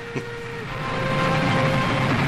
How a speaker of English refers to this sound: All right, so there's a train. Yeah. Figured that much. It's the Old West, and they're just on a train for the whole episode?